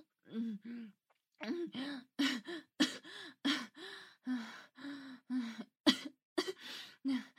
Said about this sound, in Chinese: 我为什么还在咳嗽？你最后那么用力的往里顶，都顶到喉咙里了，我差点都要窒息了。